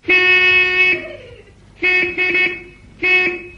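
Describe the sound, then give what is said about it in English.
Loud car horns honk in a traffic jam: one long toot, then two short ones in quick succession, then another, each a steady harmonic tone over a low rumble of idling traffic. “There's quite a traffic jam building up.”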